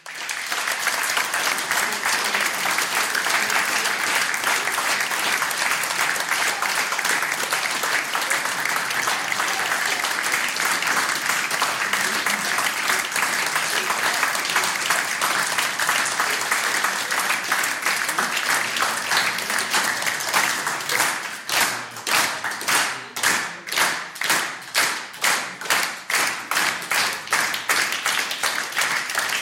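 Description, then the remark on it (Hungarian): Loud, sustained audience applause fills the whole stretch, a dense wash of clapping that turns into rhythmic, synchronized clapping in a steady beat toward the end. “Úgyhogy hajrá, szép volt fiúk, szép volt lányok, taps!”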